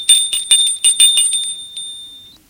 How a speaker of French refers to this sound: Très fier, il sonne à la porte.